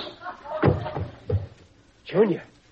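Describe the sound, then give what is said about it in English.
Three heavy punches to a man's face land in a quick, uneven series of dull thuds, knocking him out, followed by a short, strained vocal groan. “Junior, you knocked him out.”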